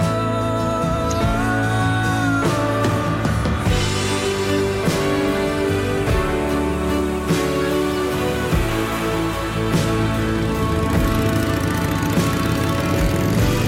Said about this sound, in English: rides a motorcycle. How about that?